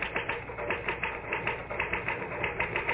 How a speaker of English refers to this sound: Well, the truth is that the typewriter, or rather...